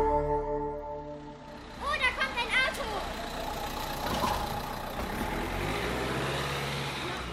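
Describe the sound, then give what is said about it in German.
Road traffic rumbles steadily as cars roll slowly past the primary school in Bad Münder, engines humming, with brief high voices chattering in the background partway through. “Irgendwie fahren die Autos direkt vor der Grundschule Bad Münder langsamer als sonst.”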